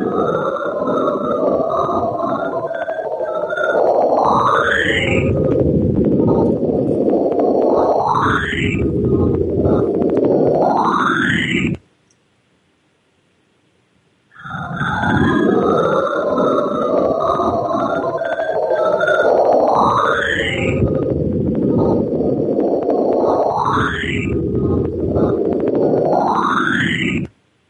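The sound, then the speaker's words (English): Space radio signal tones, hinted to be caused by chunks of ice from meteorites: loud swooping whistles that glide up and down over a dense, rumbling static roar, repeating every few seconds in two long bursts separated by a brief silence. “The evidence that each tone is produced hints that chunks of ice from meteorites are at the cause.”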